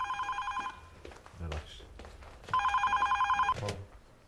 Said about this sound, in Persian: بابا این تلفن زنگ میخوره ها. خب کسی کاری با من نداره.